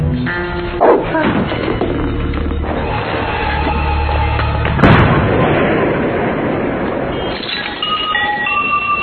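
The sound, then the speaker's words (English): A dog with a hand grenade in its mouth barks amid a dense, loud din of booming blasts and bursts, with one sharp explosion-like crack near the middle, everything chaotic with no clear pauses. “On the bright side, at least it can bark with a hand grenade in its mouth.”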